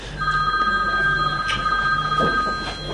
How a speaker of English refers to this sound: That sound I haven't heard in a long time. I like that. That reminds me of the old-fashioned phones.